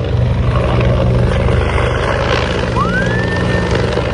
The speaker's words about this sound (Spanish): Cuando suena esa sirena, tan solo un segundo después, 1.500 litros de agua para apagar los fuegos que están en los sitios más difíciles.